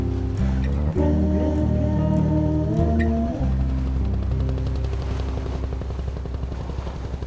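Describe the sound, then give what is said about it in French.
A helicopter passes overhead, its rotor chop a loud, steady throb that first sits under sustained musical notes, then carries on alone as the music fades. “Vous avez vu là-haut l'hélicoptère au-dessus de vos têtes?”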